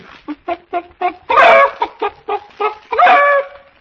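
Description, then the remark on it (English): A hen cackles: a run of quick, clipped clucks broken by two louder, drawn-out squawks, the rhythmic pattern of a laying cackle, with no one talking. “I'm a cackle that means we'll have scrambled eggs soon.”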